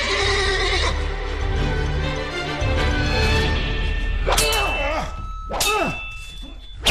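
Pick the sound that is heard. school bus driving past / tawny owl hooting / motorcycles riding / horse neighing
horse neighing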